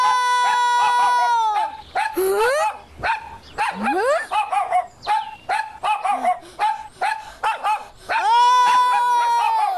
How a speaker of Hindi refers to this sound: ये कुत्ता मेरी नकल उतार रहा है, मैं इसको नहीं छोड़ूंगा।